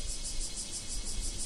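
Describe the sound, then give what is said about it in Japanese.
A bear cicada (kumazemi) drones in rapid, evenly pulsing bursts, a steady shrill throb that carries on without pause, heard from inside a room in the morning, with faint low background rumble and no voices. “これはクマゼミの声です。”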